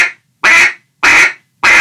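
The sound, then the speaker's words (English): Three loud, nasal quacks from a duck call, evenly spaced with short silent gaps between them, clear with no talking. “They're just quacks.”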